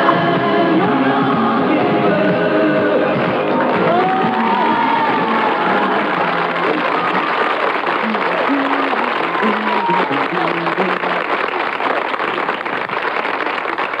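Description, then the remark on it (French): A studio audience applauds the show's director steadily, with cheers and whoops rising over the clapping, a dense, loud, continuous roar lasting the whole stretch, with shouted voices mixed in. “Applaudissez, ça lui fait tellement plaisir.”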